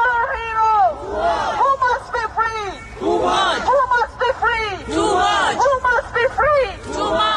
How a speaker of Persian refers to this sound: همزمان روز پنج شنبه ششم اردیبهشت در بعضی از شهرهای اروپا و آمریکا تجمعاتی اعتراضی علیه حکم اعدام توماج صالحی برگزار شد. در لاهه هلند معترضان با فریاد زدن نام توماج خواستار آزادی او شدند.